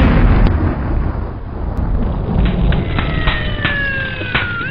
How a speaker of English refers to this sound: That sounds like a fire truck. There must be a fire.